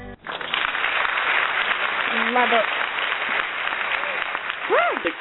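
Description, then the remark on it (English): A crowd claps steadily and loudly throughout after a song, with a few shrill whoops and cheers rising above the dense applause near the middle and again at the end. “Crowd went wild. They do. They are going wild.”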